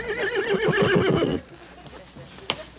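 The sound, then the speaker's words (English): A horse, one of eight pulling a carriage, whinnies loudly for over a second, its pitch wavering and trembling, then it cuts off to quiet background with a single faint sharp knock. “I mean, the one time I finally get a carriage and 8 horses to drive me somewhere, and this idiot policeman says we are violating some sort of silly city ordinance.”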